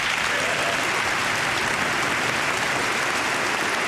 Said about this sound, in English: And the applause went on, and then it happened.